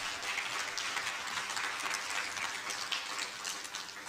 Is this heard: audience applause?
yes